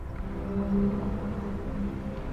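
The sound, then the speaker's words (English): A low, drawn-out whale song moans steadily over a deep underwater rumble, its tone swelling slightly midway before holding on, with no voices present. “Hear her song travel the currents beneath you on the breath of Dourgan, whales.”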